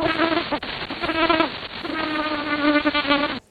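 A loud, high-pitched buzz-pollination buzz of a bee collecting pollen from flowers, a sustained, intense droning whine with brief dips, heard alone for about three seconds.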